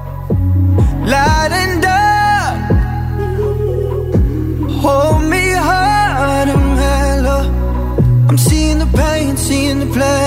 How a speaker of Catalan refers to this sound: Us deixem amb la cançó ….